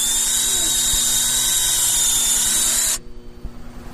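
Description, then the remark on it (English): A high-pitched dental drill bores into a beehive, whining steadily for about three seconds, then cuts off abruptly, leaving quiet low rumbling and faint handling noise. “Get out the dental drill here.”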